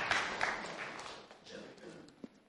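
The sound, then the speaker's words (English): A church audience claps for itself after singing, in a dense, steady patter that is loudest at the start and gradually thins and fades, with a few scattered voices mixed into the applause. “Big clap for yourself.”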